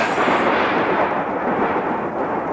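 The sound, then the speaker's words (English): A loud roll of thunder after a lightning strike, a dense, sustained rumbling roar that stays steady for a couple of seconds with no voices. “Why, lightning!”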